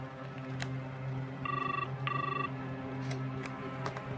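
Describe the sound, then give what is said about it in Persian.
A telephone rings once with a quick double burst of bright electronic tones, steady and moderately loud over a low background hum; it is a call to Father McKenzie, who does not pick up. “متاسفانه پدر مکنزی جواب نمیده.”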